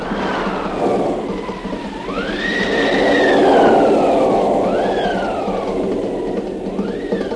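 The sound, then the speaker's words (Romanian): A thunderstorm roars steadily with a dense rain-like hiss, whistling gusts rising and falling over it, and a louder rumbling swell building through the middle before easing off. No one speaks. “Se pornește și furtuna!”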